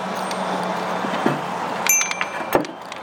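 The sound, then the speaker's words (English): Wind chimes clink a few times over a steady roar of strong wind, with brief bright metallic tones ringing out irregularly near the end. “These winds are strong enough that I don't really want our wind chimes getting damaged.”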